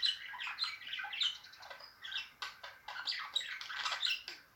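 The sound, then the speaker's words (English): Two pet budgies, one bright yellow and one greenish blue with a yellow head, chirp and chatter nonstop, a busy overlapping stream of quick, high-pitched twitters and squeaks, with no voices. “Really distinctive, very pretty little birds.”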